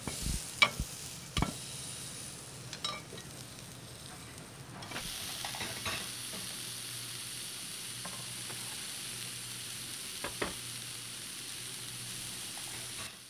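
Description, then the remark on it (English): Mushrooms sizzle on a hot grill with a steady crackling hiss that grows fuller partway through, broken by a few sharp clicks and scrapes of a utensil moving them around. No one speaks. “So when you're cooking them, you're just dehydrating them and you're cooking out the moisture.”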